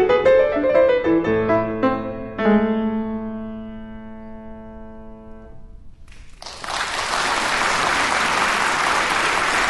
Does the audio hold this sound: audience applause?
yes